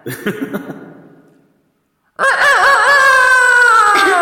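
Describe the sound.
A person imitates a rooster crowing in an ordinary private house: a few short, choppy vocal bursts, a brief silence, then a loud, sustained, wavering cock-a-doodle-doo held until the end.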